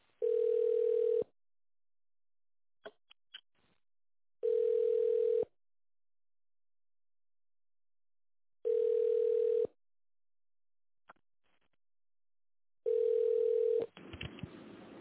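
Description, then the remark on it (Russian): A telephone ringback tone while waiting on a call to the Ural TV media holding office: four steady, mid-pitched buzzy tones about a second long, spaced by roughly three seconds of silence, with faint clicks in the gaps and a burst of line noise at the end. “Наберите внутренний номер абонента или дождитесь ответа офис-менеджера.”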